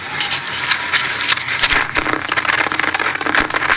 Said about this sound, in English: Now he's going to pull the mic and try to turn it off. Now he's turning it off. Here's the rustling.